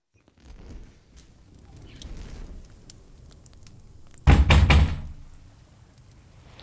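Three heavy, rapid knocks on a door ring out loud, breaking a stretch of low, murky background rumble that settles back in afterward.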